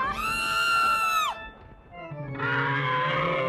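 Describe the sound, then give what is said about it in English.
A loud, sustained high-pitched scream sound effect, used as a drop, lasts about a second before its pitch drops off, then a brief lull gives way to a noisy, rumbling wash of sound. “So by the way, that was supposed to be Lindsay screaming. She never delivered. So I had to go with that.”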